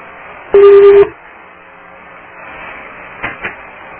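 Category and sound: signal or alarm, electronic beep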